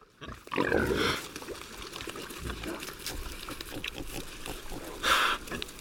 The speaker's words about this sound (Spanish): El cerdo ibérico es el animal doméstico que mejor representa el paisaje de las dehesas que se encuentran en el entorno de Cabañeros. Sueltos allí entre encinas y alcornoques, estos cerdos se crían libremente, alimentándose de pastos y bellotas